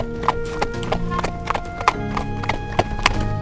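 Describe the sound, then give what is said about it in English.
Horse hooves clop steadily on a hard road, a brisk, even rhythm of sharp knocks over a low rumbling hum, with a few slightly louder strikes standing out; two strong horses pulling a caravan. “They travel down the road for a couple of minutes until a clopping behind them causes them to stop.”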